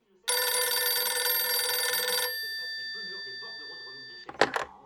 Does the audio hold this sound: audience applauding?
no